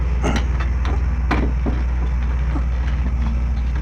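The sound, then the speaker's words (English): A truck rumbles past outside, its deep engine drone steady throughout, with scattered clanks and rattles from its load breaking through the noise. “Truck with that stuff behind me.”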